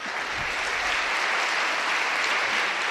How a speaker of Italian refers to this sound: E qui, tra gli applausi scroscianti dei quasi 500 presenti e le grida dei tanti piccoli e piccolissimi in braccio ai genitori, pensavo di essere entrato in un kindergarten, aveva scherzato al suo arrivo in Sala Clementina,